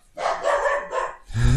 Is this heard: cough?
no